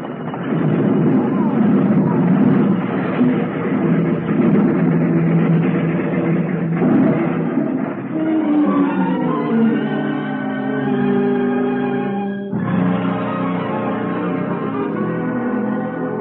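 A heavy train rumbles along, then shrill metallic brake squeals rise and slide in pitch as it grinds toward a sudden halt because a stalled freight train is on the track just ahead, the screeching tones ringing on loudly to the end.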